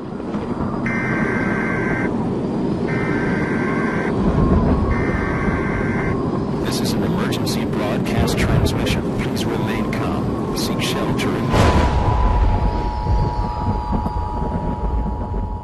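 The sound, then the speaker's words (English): Emergency Alert System attention tones in a Jacksonville, Florida station's promo for the Jacksonville Jaguars football team: three short, buzzy electronic data bursts sound in a row over loud rumbling crowd noise, followed later by a steady, harsh two-note alert tone held beneath the din. “So why are these tones so protected? And how did we land on this tone in particular?”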